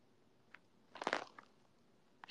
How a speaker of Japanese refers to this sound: ニップノイズ好き？え、入ってる？恥ずかしい。ちょっと遠くから喋ろう。